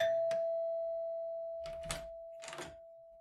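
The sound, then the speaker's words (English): A doorbell at a front door rings as one steady, mid-pitched electric tone held throughout, while several short bursts of rattling and thumping break in over it. No one speaks. “Hell, the answer may just show up at your front door.”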